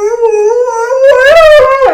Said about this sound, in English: And now, a special appearance from Lila the Bernese Mountain Dog.